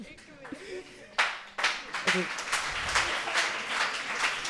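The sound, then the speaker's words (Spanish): A short bit of voice gives way to a burst of applause for correct answers in a quiz, many hands clapping in a dense, steady patter that holds fairly loud through to the end. “Hay que aplaudir, hay que aplaudir los aciertos.”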